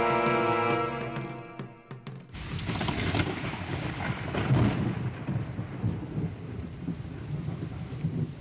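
nature, rain

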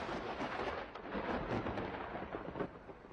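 nature, thunder rumbling

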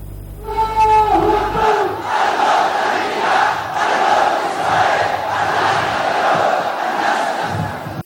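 crowd, protesters chanting slogans

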